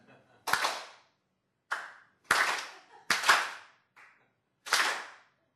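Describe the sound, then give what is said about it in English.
Sharp hand claps, about six of them, in an uneven rhythm with varied gaps between them. Most are loud and crisp, one is noticeably fainter, and no one speaks. “So let's do this again, but this time I'll do the clapping and you follow me.”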